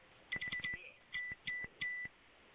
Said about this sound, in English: This is the cell phone detection system. The chick on the other end of the phone is so smoking hot. If you don't pick it up, dude, I will.